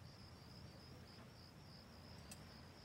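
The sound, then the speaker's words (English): Steady, continuous cricket chirping fills the quiet, a high trilling pulse repeating without pause over a soft low rumble, with no voices present. “Crickets.”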